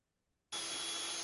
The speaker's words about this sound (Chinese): 这是先拿电钻钻个窟窿，完了再钉钉子。